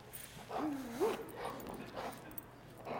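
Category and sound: animal, dog whimpering and yipping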